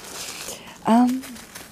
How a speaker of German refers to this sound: Ich bin echt im Wald. Vielleicht hörst du die Blätter hier. Ach da, genau.